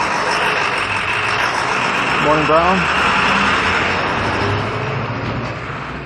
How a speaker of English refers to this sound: Oh, we got all kinds of trucks here.